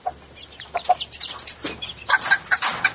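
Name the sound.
chicken clucking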